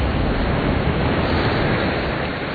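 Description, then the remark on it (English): A loud, continuous roar of winter-storm waves crashing over a rocky jetty on the North Atlantic coast, a dense rushing wash that holds steady throughout with no distinct pauses and no voices. “On the North Atlantic coast, a winter storm sends waves crashing over a rocky jetty.”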